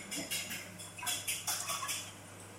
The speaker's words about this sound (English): Let's let the listeners listen to the bubbling butter.